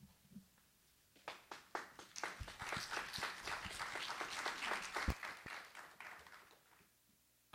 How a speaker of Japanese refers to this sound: どうぞ盛大な拍手でよろしくお願いいたします。